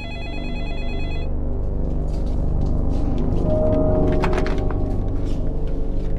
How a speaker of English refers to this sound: Shortly after midnight, the phone at the Smith house rang again.